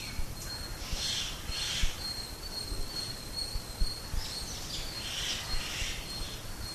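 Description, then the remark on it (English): A bird calls in a few short, high bursts that come in two clusters, fairly faint, over a steady insect-like whine and low outdoor rumble. “The bird is crying now, and we may say it is simply a cry.”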